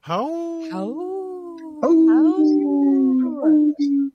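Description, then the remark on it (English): Several human voices howl like wolves, long rising and falling wails that overlap and swell together, loud, ending with a few shorter yelps. “Howling for wolves for future generations.”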